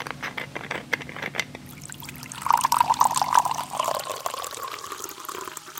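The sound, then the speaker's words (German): Water pours steadily from a jug with a bubbling, gurgling flow whose pitch rises slightly as the vessel fills over a few seconds. No one speaks. “dass Sie einen Krug Wasser auf den Tisch stellen. 9 von 10 Mal ist das chloriertes Leitungswasser.”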